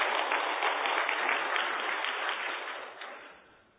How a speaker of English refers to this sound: Well, yeah, let's give them a round of applause, too.